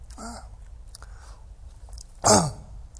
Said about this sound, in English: Still need to clear my throat.